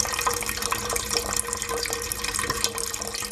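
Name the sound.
water pouring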